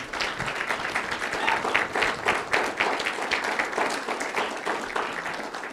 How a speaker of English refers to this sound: I think we could give a round of applause to Tessa as well as Shayna, and thank you for the work that you do.